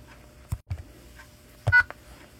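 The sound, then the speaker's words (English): A few short telephone keypad tones as a passcode is entered into a voicemail system, pressed at an uneven pace with brief pauses between them, fairly clear against a quiet background with no talking. “Enter your passcode, then press pound.”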